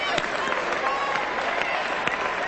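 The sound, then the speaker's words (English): A church audience claps loudly together at the preacher's call for a loud clap, a dense steady wash of many hands clapping with a few sharper accents standing out, sustained for a couple of seconds. “You got to have, I'm going to have a loud clap.”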